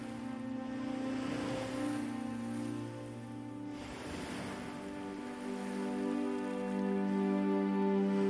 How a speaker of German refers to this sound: Mach dir einmal bewusst, dass diese Wellen durch die Gezeiten getragen werden, im ewigen Rhythmus von Ebbe und Flut.